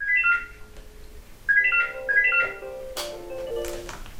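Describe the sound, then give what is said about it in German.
A telephone rings in repeated bursts of bright warbling tones at a church telephone counselling service in Berlin, with a quieter low hum underneath and some busier clattering noise toward the end. “Ununterbrochen klingelt das Telefon.”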